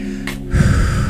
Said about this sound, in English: Breathing in.